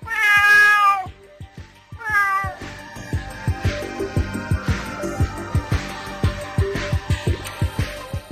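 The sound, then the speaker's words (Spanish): A cat meows twice, loud, each cry long and wavering, with a short pause between; a steady rhythmic tapping beat then continues alone. “Una gata.”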